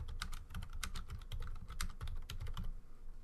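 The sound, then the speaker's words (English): Rapid, intense typing on a computer keyboard while a Twitter poll is being put up, a dense run of sharp key clicks in quick irregular bursts, fairly loud with no voices. “Intense typing while we put a Twitter poll up on Twitter.”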